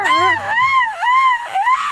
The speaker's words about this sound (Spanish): Un grito bien mexicano, haz de cuenta que te estás aventando tu tequilita y suena